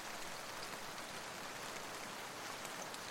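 Steady rain falling, a soft continuous hiss with fine pattering detail that never lets up, fairly quiet and even throughout, with no voices or other sounds.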